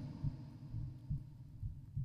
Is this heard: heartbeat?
yes